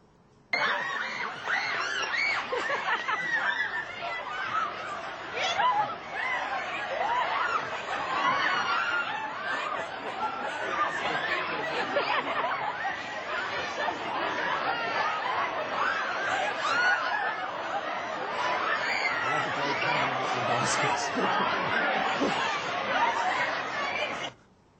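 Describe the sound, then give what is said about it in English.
A dense, excited crowd roars continuously as the doors of a new store open on its first day, with overlapping shouts, cheers, laughter and chatter blending into a loud, steady wall of noise. “But again, sorry to the web people, but the noise is actually a major part of the impact, I think, of this short footage. This is as we opened the doors on day one.”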